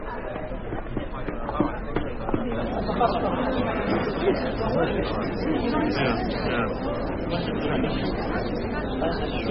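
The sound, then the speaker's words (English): A dense, steady babble of many voices chattering at once, no single speaker standing out, with occasional thumps and clatters mixed into the continuous hubbub. “The size of this crowd.”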